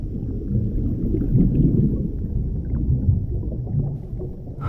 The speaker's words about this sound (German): Nur das Rauschen des Meeres.